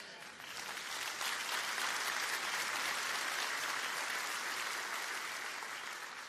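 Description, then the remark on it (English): A crowd applauds steadily for several seconds, a dense, continuous wash of clapping that swells quickly and holds loud throughout, with no voices standing out. “Now, in my younger days, I have to admit that that speech was not welcomed with the kind of applause that you just gave.”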